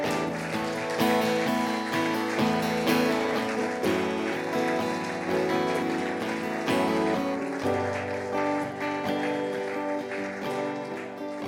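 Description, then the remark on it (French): A crowd claps steadily and continuously, a dense patter of applause washing over sustained chords of music that shift every second or two, all at a fairly loud, even level. “Est-ce qu'on peut les applaudir? Bravo!”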